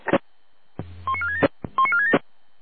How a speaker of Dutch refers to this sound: Ja, helaas, ik ken geen vijftoonvolgsysteem decoderen zo uit het hoofd.